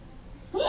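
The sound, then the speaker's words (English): A person sneezes once: a short breathy intake rising into a sudden, loud burst after near silence. “Bless you.”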